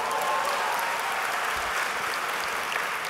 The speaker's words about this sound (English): University of Oregon football team is a dear to your heart. Sure. Yeah, you can applaud.